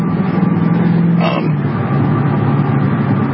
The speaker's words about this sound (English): So Al Gore approves this car. It's a 25 horsepower. It's not a Super Hellcat. It's a fake one.